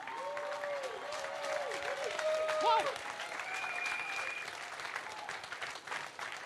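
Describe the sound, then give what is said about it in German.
Sustained audience applause at a remembrance ceremony for the dead, a dense, steady clatter of many hands clapping, with a few brief tonal sounds rising over it. “Unser Totengedenken wird gleich durch einen, ja genau, das finde ich ist auch ein Applaus wert.”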